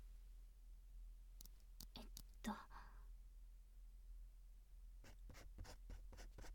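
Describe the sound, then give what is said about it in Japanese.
A pen scratches across memo paper in two short bursts of quick strokes separated by a pause, quiet over a faint steady background hum. “メモ用紙はそこの欄に。ペンもあるはず。”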